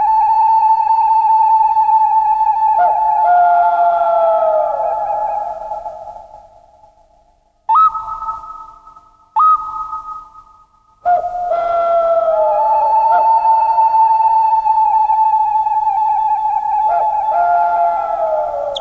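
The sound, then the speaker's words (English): Russian folk wind instruments imitate the birdsong of central Russian woods in summer with long, reedy whistling notes that swoop and glide, fading away before two short chirping calls, then returning with sustained warbling tones. No voices. “In case you're wondering where we are right now, well, we're in the Russian woods in summer, judging by the birdsong in central Russia. Their voices are imitated with amazing conviction by folk wind instruments.”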